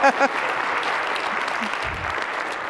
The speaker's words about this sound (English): Yeah, let's hear it for, you want to clap for the teens. Yeah, that's right.